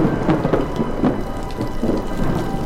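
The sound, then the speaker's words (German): Steady rain falls with a low, rumbling roll of thunder running underneath, a continuous stormy wash with no voices present. “Und es donnert schon wieder!”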